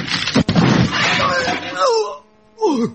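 On a film set, a camera is smashed over a man's head: a sudden sharp smash cuts through a burst of rough, clattering noise, and the man's pained vocal cries and groans follow.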